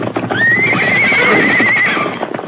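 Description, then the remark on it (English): A horse lets out a loud, drawn-out whinny with a wavering pitch, rising and falling over about two seconds, over a busy rumble of galloping hooves, as Silver, a white horse, leads Mustangs to the corral gate. “Silver him lead Mustangs to gate.”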